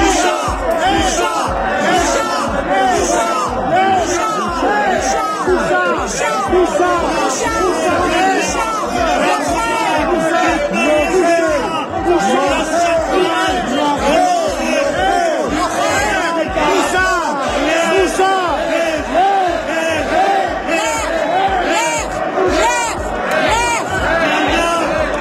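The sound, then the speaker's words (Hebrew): A loud, dense crowd of voices shouting and roaring over one another in a heated Knesset debate on the electricity law, the opposition yelling at Prime Minister Naftali Bennett, in the morning; continuous and chaotic for the whole stretch, with overlapping yells and no single speaker standing out. “הדיון התנהל תוך צעקות ושאגות מצד האופוזיציה כלפי ראש הממשלה נפתלי בנט.”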